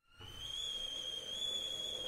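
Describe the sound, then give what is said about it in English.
A kettle whistles steadily as water boils, a single sustained high-pitched tone that starts abruptly and holds constant, layered over a soft rushing hiss. “Oh, the kettle's boiled.”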